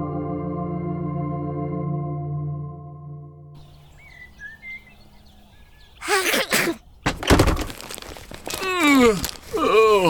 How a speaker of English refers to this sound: I just sneezed and I got a booger situation here.